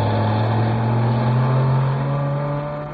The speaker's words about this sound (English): look, there's a police car coming along the road. Yes, it's not going very fast, is it? Well, that's not surprising. It's being pushed.